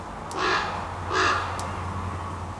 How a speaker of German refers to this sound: Am Heidelhof werden auch Keas beforscht. Das sind neuseeländische Papageien. Und die hören sich so an.